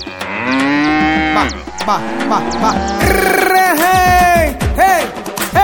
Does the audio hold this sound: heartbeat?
no